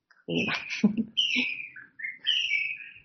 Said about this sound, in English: Wow, the birds are really excited today. Yeah. Pretty early. Okay, so as we chant Jayarada Madhava, we can hear all the birds chirping as they watch Radha and Krishna in the kunj.